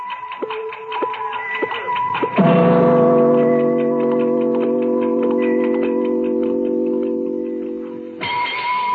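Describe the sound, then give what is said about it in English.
A large clock ticks steadily; after a couple of seconds a loud, sustained ringing tone swells over the ticking, holds for several seconds, then cuts off as the ticking carries on. “I could feel the big clock's hands spinning, hurling me faster and faster.”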